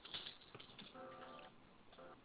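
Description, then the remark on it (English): Slow, uneven key taps on a keyboard, typed with one finger while the other hand holds a phone, pressed one at a time with pauses between them, faint over a quiet background with a soft murmur. “I'm typing one finger because I'm holding the phone with the other, so.”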